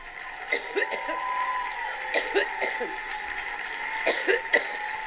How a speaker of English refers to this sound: coughing so uncontrollably, she requested a glass of water. Let's see if she's still coughing. Is she still coughing?